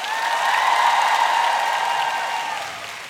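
An audience applauds steadily for about three seconds, a dense, even wash of clapping with a faint cheering tone running through it, tapering off slightly at the end.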